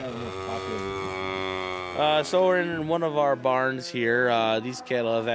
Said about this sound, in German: Wir sind hier in einer unserer Scheunen. Die Kühe können jederzeit raus auf die Weide. Sie sind alle trächtig, werden in einem Monat kalben.